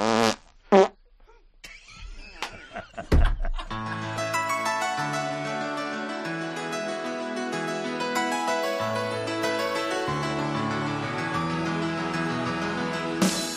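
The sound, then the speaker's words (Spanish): A few short, loud fart sound effects burst out in the opening seconds, then give way to steady music with sustained tones that carries on to the end. “por intentar explicarnos de una manera científica y serena y tranquila este tan escabroso asunto de los pedos propios y ajenos.”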